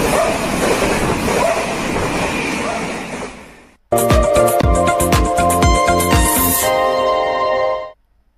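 A dog barks loudly and repeatedly in quick succession, following a few seconds of steady, broad rushing noise that cuts off abruptly; no one speaks.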